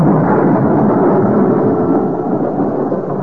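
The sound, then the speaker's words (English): A loud, sustained roll of thunder rumbles continuously through a storm, a deep, dense roar that fills the whole clip and fades only slightly toward the end, with no voices. “His chance came a couple of nights later. The night of the storm. Such a storm.”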